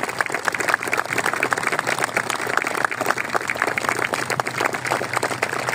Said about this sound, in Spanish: y por eso yo les quería pedir a ustedes nuevamente y renovado un fuerte aplauso para nuestra lista.